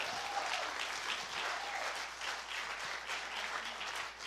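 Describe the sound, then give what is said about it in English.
An audience claps for the Lord, a dense, continuous patter of many hands that stays fairly even in loudness for several seconds, with a faint voice briefly rising underneath. “If you are with me, can you clap then for the Lord?”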